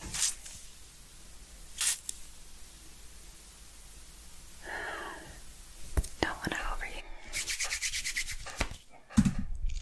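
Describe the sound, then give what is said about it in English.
Scratchy bristles of a stiff makeup brush rubbing against skin while blending, in short and sustained strokes, growing busier and louder toward the end, with faint breathy whispering in between. “blending with the stiff brush.”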